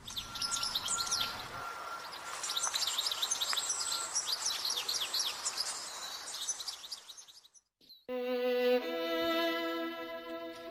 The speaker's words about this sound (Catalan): Els que ja tenim anys l'havien vist en grans quantitats, grans estols, i ara veiem bastant menys del que veiem fa anys. I, a més, sabem si es recupera, perquè sempre ens dona vibracions positives, aquesta cadernera.